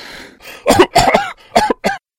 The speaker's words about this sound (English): A man was lying in the infirmary bed once more. The defense professor breathed, then made a retching coughing sound.